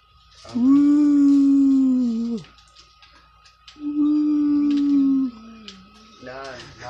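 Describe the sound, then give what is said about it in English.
Distant police sirens: two long, steady wailing tones, each lasting about two seconds with a short gap between them, fairly loud over a low background hiss, then a brief rising sound at the end. “You hear that distant police sirens?”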